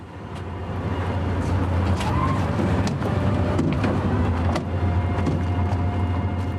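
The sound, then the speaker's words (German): A tour bus engine rumbles low and steady for several seconds, with scattered clicks and faint street noise on top as the bus pulls up and halts on Schwanenplatz in Lucerne, Switzerland, on a cold December afternoon with heavy sleet. No one speaks. “Wieder hält ein Reisebus auf dem Platz.”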